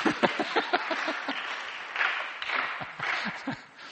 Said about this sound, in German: Wer hat da so laut geklatscht?